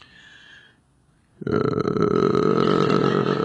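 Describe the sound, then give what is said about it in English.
After a moment of near silence, a person's voice abruptly lets out a loud, sustained, throaty growl imitating a lion growling over its prey, holding steady for about two seconds and sounding somewhat like a drawn-out burp. “I had one moment to do the lion impression and I screwed it up publicly, all right?”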